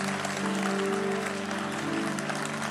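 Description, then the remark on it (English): A crowd claps steadily to appreciate God for a man's life, with dense, continuous applause over a low sustained musical hum, no clear speech on top. “Some of you are clapping like your hand does not belong to you.”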